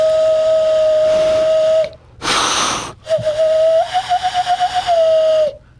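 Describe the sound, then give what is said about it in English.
A hollow, owl-like hand whistle, blown into hands clasped together with a hole made between the two thumbs, holds one steady low-pitched note, breaks for a sharp breathy inhale, then sounds again with a fluttering, pulsing warble before stopping. No one speaks. “You put your hands together kind of like a monkey clap. Right. And then you make a hole with your two thumbs.”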